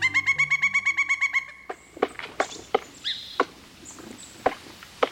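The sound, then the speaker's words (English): A female pileated woodpecker hammers its massive chisel-like bill into a cedar trunk, cutting large rectangular incisions, some nearly a foot long: sharp, woody knocks land at uneven intervals, loud, after a quick run of rhythmic pulsing tones at the start. “This pileated woodpecker is hammering its massive chisel of a bill against the trunk of a cedar tree, making large rectangular incisions, some nearly a foot long.”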